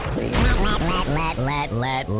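A duck quacks loudly, a quick run of about six or seven nasal, rising-and-falling quacks in steady succession with no other sounds around them.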